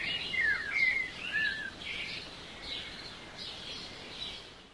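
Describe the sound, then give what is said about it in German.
Newly hatched bird chicks, just breaking out of their eggshells, chirping in a busy, overlapping chorus of thin, high peeps that rise and fall, fairly soft and steady throughout, with no voices. “Einige Zeit später brechen die ersten Vogelküken aus der Schale auf und treten so ins Leben ein.”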